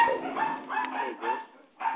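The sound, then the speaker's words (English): A couple of dogs bark and yip in quick overlapping bursts, sounding muffled and thin over a phone line during a remote call, with a short lull before one more bark. “Sounds like you got a lion there. No, a couple of dogs.”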